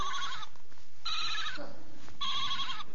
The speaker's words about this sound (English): And I'm sure the wee sheep was bleating. I'm sure the wee sheep was crying.